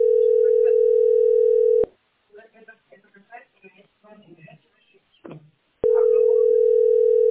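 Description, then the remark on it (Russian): A steady, unbroken telephone dial tone hums for about two seconds as a number is being called, cuts off while a person talks briefly, then resumes at the same pitch and loudness. “Сейчас звоню по этому номеру, я не отвечаю.”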